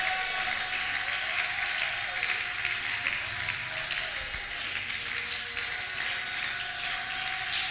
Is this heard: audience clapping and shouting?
yes